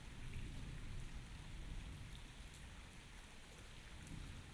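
Steady rain falls throughout, a dense, even hiss of drops with a soft low rumble underneath, fairly quiet and unbroken, with no voices.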